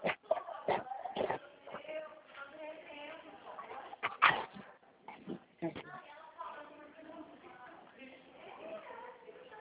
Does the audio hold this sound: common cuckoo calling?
no